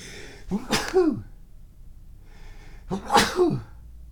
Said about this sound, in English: But first, I think I'm going to sneeze.